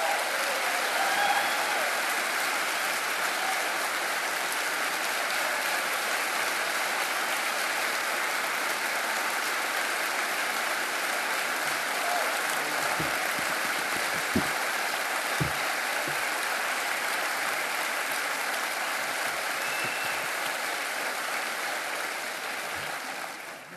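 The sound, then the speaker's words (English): A large crowd at Harvest applauds steadily and loudly for over twenty seconds to welcome Dr. James Dobson, a dense wash of clapping that stays sustained throughout with a few scattered cheers and whoops rising out of it. “So with that being said, let's give a warm Harvest welcome to Dr. James Dobson.”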